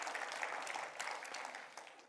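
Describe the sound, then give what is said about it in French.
An audience applauding God: dense, steady clapping from many hands, a continuous crackling wash with a few sharper claps standing out, sustained at an even level throughout without any voices. “Est-ce qu'on peut applaudir notre Dieu qui est en nous et qui nous donne le vouloir et le faire?”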